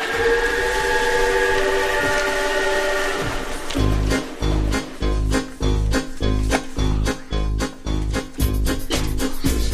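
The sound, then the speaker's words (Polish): A sustained steam whistle blows for a few seconds, then a train starts chugging in a steady, loud rhythm of puffs that continues to the end, with no voices. “Siadamy z powrotem do pociągu.”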